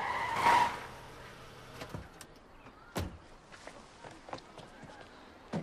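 A car pulls up with a short, fairly loud squeal of tires near the start, followed by a few sharp thumps and clicks against a low, steady background.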